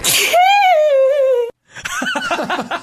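A sharp, breathy sneeze burst flows into a long, high-pitched voiced squeal, then after a brief silence come choppy, giggly vocal bursts like laughter.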